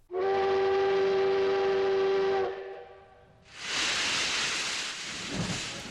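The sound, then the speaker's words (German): A loud, steady train whistle blasts for about two seconds, then a broad rushing rumble of a rolling train takes over and continues to the end, strong, with no voices; an evening train to Seoul. “Ich stieg an diesem Abend in den Zug nach Seoul.”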